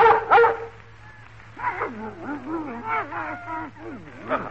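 animal, dogs barking and whimpering

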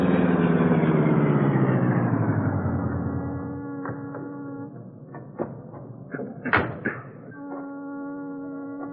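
vehicle, car engine idling

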